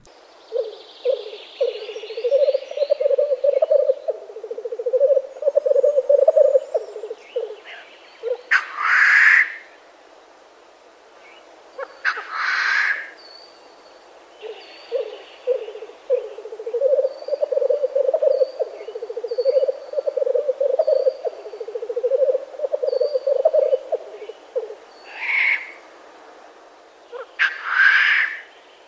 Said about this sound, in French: Alors là, on a du mal à imaginer qu'il s'agit du même animal et même du même oiseau, qu'il s'agit d'un oiseau qui fait ces deux chants-là. Alors de qui s'agit-il ? Il s'agit du tétralyre, du coq de bruyère. Donc c'est le mâle qui émet ce roucoulement